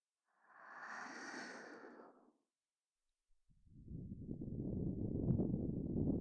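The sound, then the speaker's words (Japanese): A soft exhaled breath puffs close to the microphone, followed after a short pause by a longer, rushing blow of air with a low, buffeting rumble. No one speaks. “私の吐息を直に感じて、右も落ちちゃいましょうね。”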